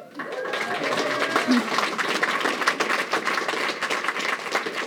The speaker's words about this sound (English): Love the round of applause.